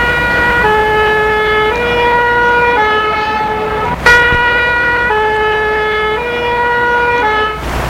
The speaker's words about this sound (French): Ils entendent la voiture des pompiers.